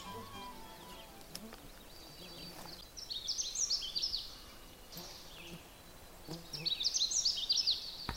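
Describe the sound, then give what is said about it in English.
A Canada Warbler sings two quick, jumbled bursts of high, bright notes a little way back along a snowmobile trail in the Devil Track area, with a pause between them, over a faint outdoor background with other competing sounds. “What I'm trying to get, it's a little bit back from me and there's a lot of competing sounds, is the Canada Warbler song.”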